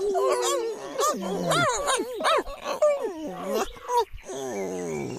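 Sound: small dogs barking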